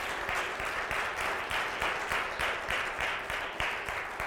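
Sustained applause from a crowd in honor of Jesus Christ, a dense, steady wash of many hands clapping that swells in regular pulses for several seconds without any talking.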